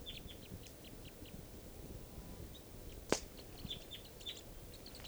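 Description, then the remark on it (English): Three birds chitter as they come down from low deciduous trees around a camp, in short, high, scattered chirps that run throughout, fairly soft over a steady low rumble, with one sharp louder snap partway through. “And they're coming down, chittering.”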